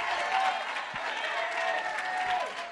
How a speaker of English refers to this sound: The prophet is prophesying. The prophet is clapping the hands. And the Lord says, I am prophesying and I am clapping the hands.